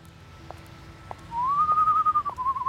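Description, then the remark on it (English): A person whistles from a darkened alley, a single long, steady note that rises slightly and then slowly falls, clear. It starts after a brief quiet stretch with a low background hum and a few faint ticks. “She didn't make it very far before she heard a whistle coming from a darkened alley.”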